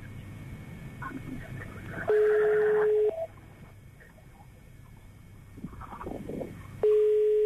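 A telephone ringback tone, heard while a call is being transferred to an operator, sounds twice, each a steady one-second beep spaced several seconds apart, with faint background voices and room noise in the gaps.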